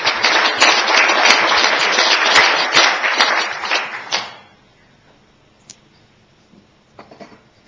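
A burst of applause from a crowd at a municipal council meeting, for departing council members, dense and loud for about four seconds, then quickly fading to near silence with a few faint knocks and shuffles.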